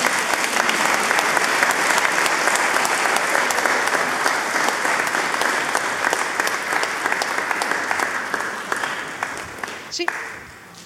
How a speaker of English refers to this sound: And these people all want to applaud, so should we let them? Yes, let's do it.